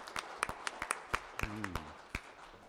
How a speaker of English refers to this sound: Let's give a shout of praise to the Lord and clap our hands. Hosanna, we praise you, Lord.